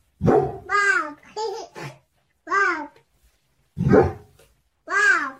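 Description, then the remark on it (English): A baby babbles in short, high-pitched bursts mixed with a dog's yelping barks in an AI-generated video: about five fairly loud vocal outbursts separated by brief pauses, with no talking. “This I can is already a baby tell. And a dog.”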